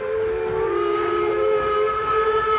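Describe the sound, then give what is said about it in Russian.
A departing steam train's whistle blows one long, steady, piercing tone with a breathy hiss beneath it, loud, holding unbroken for the whole stretch with no voices. “Поезд ушел быстро, его огни скоро исчезли.”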